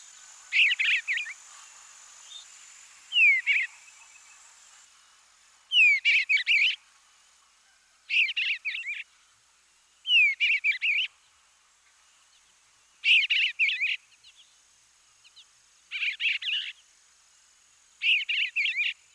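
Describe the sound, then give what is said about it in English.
An eastern bluebird sings its full song, a series of about eight short, soft warbling phrases with rich whistle notes, spaced a couple of seconds apart, clear, over a faint, steady insect hum. “The bluebird's flight note is a sweet whistle. Now let's hear the full song once again.”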